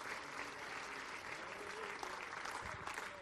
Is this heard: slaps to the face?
no